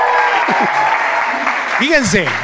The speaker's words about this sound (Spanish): O sea, él nos recibe al rector general de la UDG, Ricardo Villanueva Lomelí. Les pido un aplauso para él que está con nosotros.